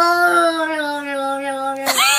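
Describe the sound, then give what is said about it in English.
A hairless cat gives a long, steady, moaning wail like a crying child, held at one pitch for nearly two seconds before breaking into a sharper, rising cry. The cat's call is loud and sounds alone. “So if you hear your cat going,”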